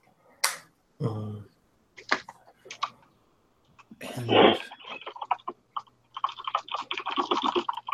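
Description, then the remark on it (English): Keyboard typing as someone takes notes: scattered sharp key clicks and a few heavier thumps, then a rapid, steady run of keystrokes toward the end. A voice briefly speaks one word. “someone's typing, and it's louder than I can speak in character.”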